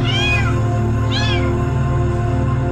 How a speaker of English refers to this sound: These kittens were used in experiments performed at the Boys Town National Research Hospital. The experimenters cut open kittens' skulls and severed a bundle of nerves in the animal's brain without giving the kittens any painkillers.